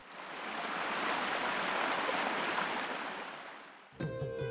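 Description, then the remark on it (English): Steady rushing of the Pahang River in Pahang, Malaysia, the longest river in the Malay Peninsula, fills the scene, a broad hiss that swells gently and holds for several seconds before cutting off as music abruptly begins. “And there is a legend said to have happened right here, along the Pahang River.”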